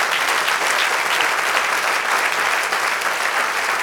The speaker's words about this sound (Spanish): Dieron un aplauso al Señor.